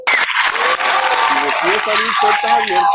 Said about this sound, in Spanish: Eso merece otro aplauso, vamos, muchachos, de pie, vamos, bien, vamos.